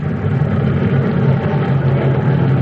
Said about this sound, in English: It's 1:30 a.m. now. A great wave of planes, our planes, has just swept over us. These were our transports coming out. They mean that our paratroopers have landed on Sicily and are already at work.